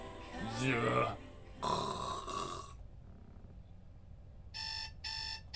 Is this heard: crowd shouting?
no